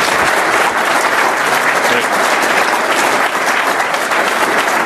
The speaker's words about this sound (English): They're all here with me today. They're rarely called upon to stand in front of groups like this, but I just hope you'll join me in a round of applause for all of the great work that they're putting in.